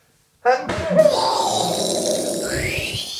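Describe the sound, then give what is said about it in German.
A single sneeze: a short voiced intake rising into an explosive, breathy burst that trails off into a long, loud noisy rush. No talking accompanies it. “musst du niesen? Ja. Okay, ich duck mich.”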